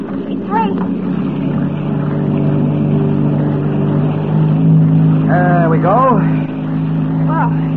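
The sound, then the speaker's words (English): A motorboat engine drones steadily and loudly at dawn as the boat is cast off and steered out of a cove of an island, its low hum holding even as it moves along, while people speak briefly over the noise. “We don't want Boris to see us stealing his boat.”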